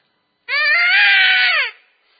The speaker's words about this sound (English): That's for coyotes. That's a dying rabbit. And buddy, the coyotes will come. That's a lure. That's what that is. It's a coyote. It's a varmint call. It's a coyote. It'll bring in a coyote.